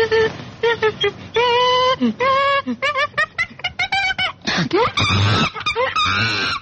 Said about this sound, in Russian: Обезьяна.